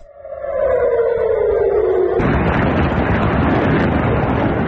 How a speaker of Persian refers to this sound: به دنبال ادامه حملات موشکی از سمت غزه به اسرائیل، ظهر روز دوشنبه صدای آژیر در مناطق مختلفی از شهر تل آویو به گوش رسید و ویدیوهایی در شبکه اجتماعی از انفجار دست کم یک موشک در اطراف فرودگاه بن گوریون این شهر منتشر شد.